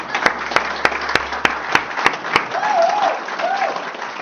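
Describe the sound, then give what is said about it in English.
A church audience applauds a deaconess leader with a dense, steady wash of clapping, punctuated early on by sharp, evenly spaced louder claps; a brief voice rises over the applause toward the end. “And I'd like to clap for her and embarrass her right now.”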